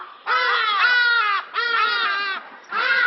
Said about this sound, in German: Er hier gilt als der lauteste Vogel Afrikas, der Hagedasch. Wer schon einmal im Süden des Kontinents unterwegs war, der kennt seinen Schrei. Und da er ein Frühaufsteher ist, ersetzt er vielen Südafrikanern den Wecker.